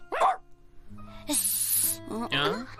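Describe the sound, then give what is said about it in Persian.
A little old woman's dog gives a short bark, followed by a burst of airy hissing and then another bark, fairly loud against a faint low hum. “سگ چی”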